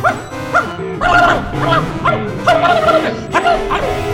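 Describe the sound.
A person imitates a dog, giving a rapid string of loud yapping barks and bow-wows in uneven bursts, with whiny, yelping tones between them.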